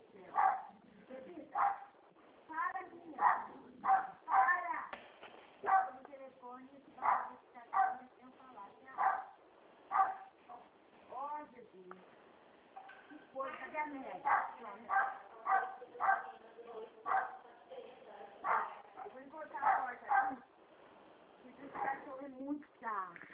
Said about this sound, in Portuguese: Boa tarde, espera só um pouco que eu vou acalmar meu cachorro, só um minutinho.